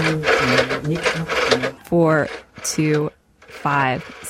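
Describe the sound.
A rotary phone in a phone booth in Otsuchi is dialed to the number of a woman's old house, its ratcheting, clicking whir running in bursts, while her voice softly murmurs numbers over and between the turns of the dial.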